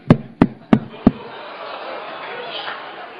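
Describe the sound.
Four sharp, evenly spaced knocks rapped on a hard surface, mimicking a loud, hard knock on a door, followed by a faint murmur of room noise.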